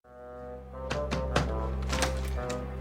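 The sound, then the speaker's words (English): Several sharp knocks on a hotel room door land in an uneven rhythm, some in quick pairs, over a steady low droning hum that runs throughout. No one speaks. A man who arrived without his luggage is knocking to ask for a toothbrush. “But he's coming to you because due to some classic Larry plot twist, he had to come without his luggage, and so he doesn't have a toothbrush, and so he's knocking on your door to see if you can help.”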